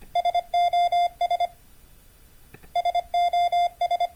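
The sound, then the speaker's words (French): A steady mid-pitched electronic tone beeps out the SOS distress signal in Morse code, three short, three long, three short, then a pause and the whole sequence again. “Le signal de détresse SOS, choisi pour sa simplicité, est représenté en code Morse par la combinaison suivante. 3 points, 3 traits, 3 points.”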